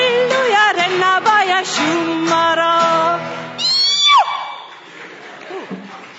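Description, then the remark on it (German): A loud, high-pitched war cry shout from a single voice, ululating and wavering with sharp rising and falling whoops over about six seconds before trailing off, the shouter turned slightly away from the microphone. “Das war eben der Kriegerschrei.”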